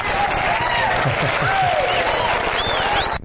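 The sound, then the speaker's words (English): Steady audience applause fills the whole clip, a dense wash of clapping with some whistles and crowd voices mixed in, cutting off abruptly at the end. “Well, absolutely, you deserve that applause.”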